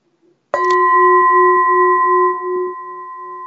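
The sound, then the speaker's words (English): A single loud gong strike rings out with a sharp attack, then a sustained, shimmering metallic tone with steady pitched overtones that slowly fades over a few seconds. “Okay, let's do a gong.”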